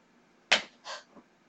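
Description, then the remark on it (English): A sharp, loud slap from a hairbrush, used instead of a hand, striking, followed by a softer rustling burst and a faint short thud, with no voices. “So, here's the deal. I'm using my handy dandy hairbrush because I do not want to murder my hand.”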